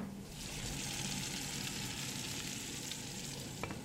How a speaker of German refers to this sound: Oksana und Irina braten Kartoffelpuffer für alle.